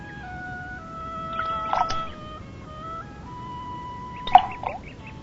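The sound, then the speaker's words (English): Two small plops of a pebble dropping into lake water, the second sharper and louder, set against steady sustained tones and a low, soft background rumble. “See the circle the pebble makes in the water?”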